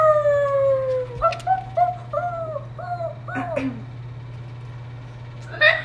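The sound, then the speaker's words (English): A dog named Pancho lets out a long, sliding howl that falls in pitch, then breaks into a run of short, wavering yelps and whines before trailing off, over a low steady hum. “No, we're trying not to make him howl.”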